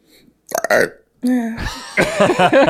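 A loud, close burp rings out, followed by a second drawn-out belch with a gravelly, voiced texture, with a short pause between them and no other sounds around.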